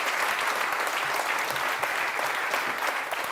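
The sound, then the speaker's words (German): Sustained audience applause at the Weserstrand, a dense steady patter of many hands clapping at an even loudness throughout, with no voices standing out above it. “Das ist nochmal ein extra Applaus wert.”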